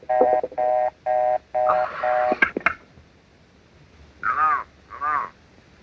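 Five short, evenly spaced electronic ring tones of a telephone call to an office pulse in quick succession, followed by a couple of sharp clicks as the line picks up, then two brief spoken calls.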